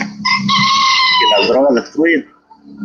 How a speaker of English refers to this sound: Joaquin El Chapo Guzman competes with a cockerel on one of his farms and offers us this.